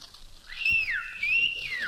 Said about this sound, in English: I went down to her house to elope. I whistled up to the window.